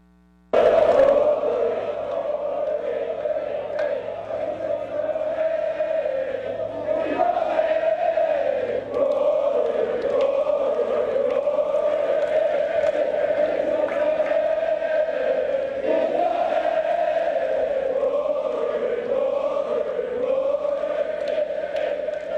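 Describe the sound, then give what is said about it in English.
A large golf crowd at the first tee of the last Ryder Cup, before Sam Burns faces Rory McIlroy, chants in unison about Rory, a loud, steady wall of voices with repeating sung phrases that rise and fall in a regular rhythm, continuing without a break throughout. “And you'll hear the crowd talk about how he's in your head, Rory, Rory.”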